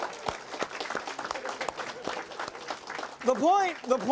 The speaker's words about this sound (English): All right, let's give him a round of applause. Good job. Thank you.